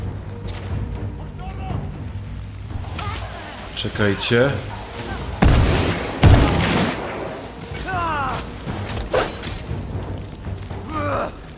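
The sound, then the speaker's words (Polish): Several loud, booming explosions burst out close together near the middle, over a steady low rumble, while a man speaks briefly in between. “Co tu tak wybucha wszystko?”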